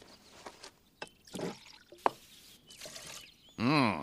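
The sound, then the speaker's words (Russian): A drink is poured into a glass: short bursts of splashing liquid and a sharp clink, then a louder steady pour whose tone rises as the glass fills. No one speaks. “Налей мне стаканчик.”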